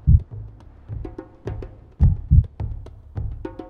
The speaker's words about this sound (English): So the heartbeat is the first rhythm we ever hear, even before we were born. And it is rhythm that carries us through every moment we leave. The heartbeat is life, I think, reminding us over and over again that we are here, alive, right?